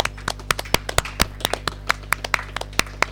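A short burst of applause from a small group, with sharp, uneven hand claps overlapping at a lively pace over a faint steady low hum, and no talking.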